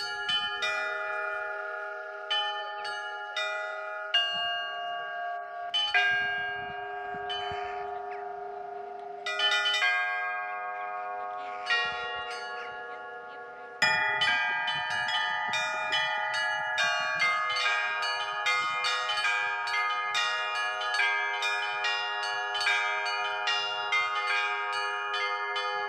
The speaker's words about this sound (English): Now, I've heard that the sound of the bells from this tower, they carry out across the land, far and wide, Marina, and they join in the chimes of the other bells from the other churches and create a sort of unified melody.